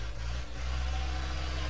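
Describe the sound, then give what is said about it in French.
A tractor engine runs at Christmas with a steady, low droning rumble, holding an even level throughout, with no voices over it. “Un tracteur.”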